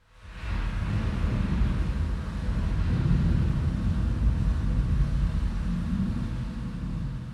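A thunderstorm stage sound effect that opens a new production of Samuel Beckett's play Krapp's Last Tape at the Barbican in London: a deep, continuous rumble that swells in quickly and holds loud and steady, with a faint hiss above it and no voices.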